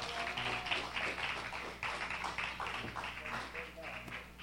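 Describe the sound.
An audience applauds steadily, many hands clapping in a dense, continuous patter that holds at an even level throughout, with a few voices mixed in underneath.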